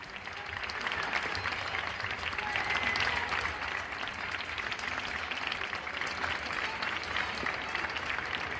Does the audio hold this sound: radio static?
no